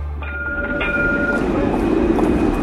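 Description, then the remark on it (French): A tram in Russia rolls along its rails, a steady rumbling roar with faint metallic squeals and tonal whines rising over it, continuous throughout. “C'est en Russie que nous sommes, là, en train de prendre le tramway”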